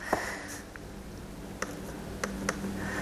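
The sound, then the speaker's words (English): A handful of soft computer mouse clicks tap out at irregular intervals over a faint steady hum, with no one speaking. “I don't know if you can see this on my screen, but I'm clicking.”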